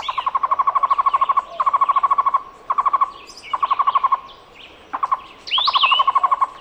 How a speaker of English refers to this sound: The Cuban trogon is a medium-sized bird often found in pairs. Its song sounds like its Spanish name, tocororo.